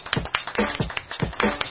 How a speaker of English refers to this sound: Why are we clapping? Because it's like with a beat.